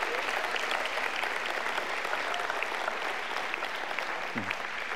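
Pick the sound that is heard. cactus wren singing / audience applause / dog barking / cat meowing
audience applause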